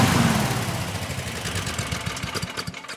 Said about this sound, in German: Endlich ist da Ruhe. Heute geht's bei uns um Überdruckbelüftung, wie ihr ja schon gehört habt. War ja auch fast nicht zu überhören. Stefan meinte ja, wir sollen das Intro vor dem Überdrucklüfter aufnehmen.